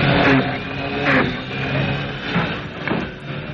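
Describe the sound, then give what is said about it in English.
A car engine revs loudly and steadily for a few seconds, its droning hum swelling and easing in several surges without any voices. “I thought you said the engine was silent.”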